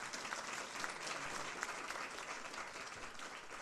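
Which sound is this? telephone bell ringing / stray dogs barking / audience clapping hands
audience clapping hands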